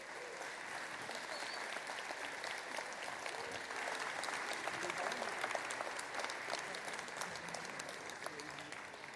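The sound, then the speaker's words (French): At the Utopiales festival's awards evening in Nantes, a sustained round of audience applause for the festival's artistic advisers, dense and steady clapping from a sizable crowd, filling the space evenly for several seconds without any voices over it. “Vous pouvez les applaudir, c'est eux qui font les Utopiales.”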